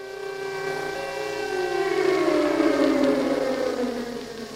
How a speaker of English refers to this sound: We are in Prague. It is just before midday on St. Valentine's Day, February the 14th, 1945, and we hear the familiar sound of an air raid siren, captured here in a Czech broadcast from the time.